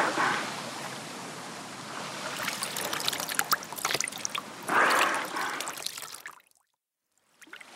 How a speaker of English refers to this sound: you must pour water on the dolphin.